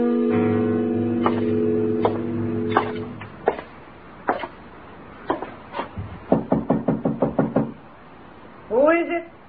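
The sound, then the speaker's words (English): Someone knocks on a door: a few scattered raps, then a quick, insistent run of about seven sharp knocks. A low tonal hum fades early, and a voice briefly speaks at the end. “Open the door”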